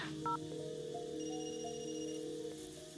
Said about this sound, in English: Okay, so far so good. I'm going to call myself from this phone so I have its number. Hopefully outgoing calls don't trigger anything.